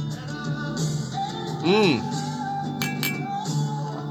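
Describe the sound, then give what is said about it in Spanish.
Bright metallic chimes ring out, like tubular bells, with a brief ringing tone that swells and bends in pitch midway, followed by a few sharp clinking strikes over a low background murmur. “No podía dejarse un poco de sonido a campanas tubulares”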